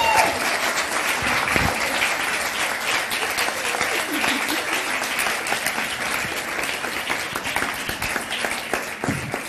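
applause

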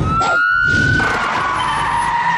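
police car siren

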